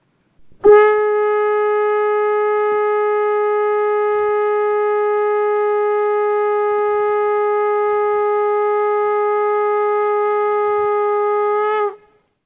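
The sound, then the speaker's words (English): A single long shofar blast: one steady, bright, buzzing horn tone held loudly for about eleven seconds, starting and stopping abruptly, with no voices. “and be glorified in Yeshua's name, and let the shofar sound or the bells.”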